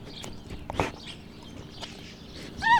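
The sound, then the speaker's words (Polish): An excited roe deer named Śliwka gives a brief, high, rising squeak near the end, after a stretch of soft snuffling and rustling as she sniffs at a microphone. No one speaks. “Czasami, jak jest podekscytowana, to tak charakterystycznie popiskuje.”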